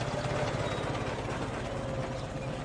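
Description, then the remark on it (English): A heavy lorry engine rumbles steadily, a deep, throbbing low drone with a rough mechanical rattle at an even loudness, with no voices. The lorry passes a farm field in the Aisne valley near Rheims, France, at 6:48 on the morning of 7 October 1914. “Monsieur Minet pays no attention to the lorry.”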